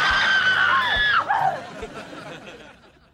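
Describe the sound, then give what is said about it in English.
Several people scream loudly and shrilly together for about a second, voices sliding downward before trailing off into fainter crowd noise and scattered chatter. “And if you're attacked by a moose, make sure you scream.”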